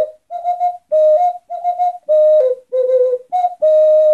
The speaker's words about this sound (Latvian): Tā skan Ivara Graša gatavotais svilpaunieks.